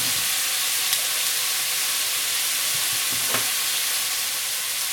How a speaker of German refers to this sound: Ja, wie ihr hört, wir sind jetzt im Topf. Jetzt braten wir immer an. Im Schmalz. Schmalz müsst ihr gucken. Ihr könnt da Schweineschmalz nehmen. Putenschmalz.